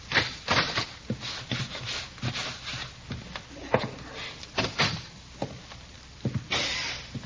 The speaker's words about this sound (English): I'll unlock the door and you can come and wait in the parlor.